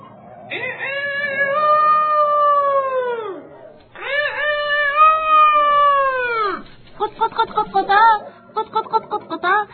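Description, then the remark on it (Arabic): A rooster crows loudly in the morning, twice, each long, strained call holding then sliding downward in pitch, followed by a burst of quick, choppy clucking notes. “أعزائي، نهض الديك ذات صباح كعادته وأخذ يصيح بأعلى صوته.”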